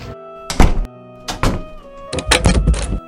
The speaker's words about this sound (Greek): Οι πόρτες έκλειναν η μία μετά την άλλη.